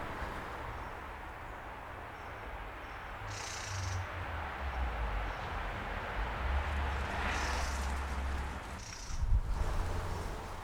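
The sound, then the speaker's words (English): A mistle thrush gives a few short, dry rattling alarm calls, spaced several seconds apart, over steady low outdoor rumble and wind noise. “Did you hear that alarm call?”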